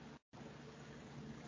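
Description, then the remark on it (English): A boat engine in the film Jaws, pushed too hard, churns loudly over rushing water, drops out abruptly for a split second, then lurches back into a steady, straining roar. No voices. “Oh, no, not the engine. Pushed it too hard, Quint.”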